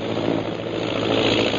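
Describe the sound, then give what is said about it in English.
A low-flying propeller airplane's engine drones loudly and steadily, a dense rumbling roar that holds nearly constant for the whole short stretch, with no voices over it. “There go air wagon”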